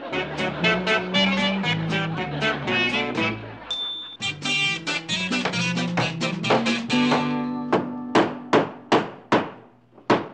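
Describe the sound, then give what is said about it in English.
Rapid, repeated hammer blows ring out in a steady rhythm as someone builds a shelf, with a brief pause, then slower, sharper strikes spaced farther apart toward the end. A low tonal hum runs underneath. “Would you stop that hammering? Stop hammering!”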